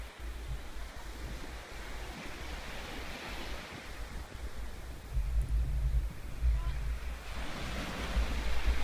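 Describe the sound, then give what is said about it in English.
Ocean surf rolls in a continuous hiss, with waves swelling louder a couple of times, over a low, steady rumble of wind buffeting the microphone. “Looking out to the wisdom of our teacher, the ocean reminds us to ride the waves of the breath.”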